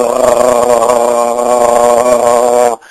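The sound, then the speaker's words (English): A person makes a loud, steady open-mouthed gargle, voiced and buzzing, sustained for nearly three seconds before cutting off abruptly into silence, as the first step of imitating a train whistle. “What you'll hear are the steps for the train whistle, opening the mouth and a gargle.”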